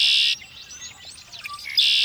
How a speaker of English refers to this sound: Red-winged blackbird.